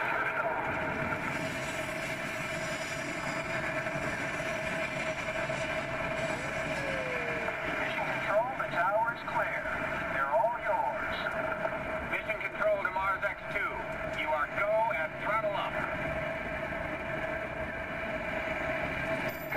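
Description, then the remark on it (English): Rocket main engines roar in a steady, loud, continuous rumble during liftoff of the first mission to Mars, with voices speaking over the din in the second half. “We have main engine start.”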